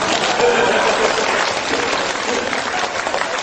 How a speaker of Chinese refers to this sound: 哎，对，我赶快鼓掌啊。